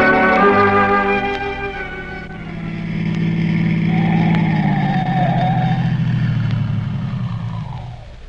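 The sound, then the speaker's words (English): A car engine hums steadily, then its pitch drops as the car slows and rolls to a stop where there isn't a house in sight, the motor sound fading out at the end. “Stopping the car here, Dr.”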